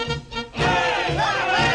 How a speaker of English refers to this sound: as a crowd of elves cheers, Santa stands in his sleigh.